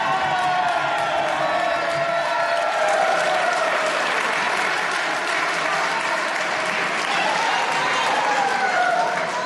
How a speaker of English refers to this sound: How about if we start over? Start clapping again.